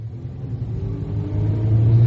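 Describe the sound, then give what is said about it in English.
A car engine rumbles low and steadily, then revs up and grows louder as the vehicle pulls away, with the engine note rising toward the end. No voices. “I've got something for you to read. In the car.”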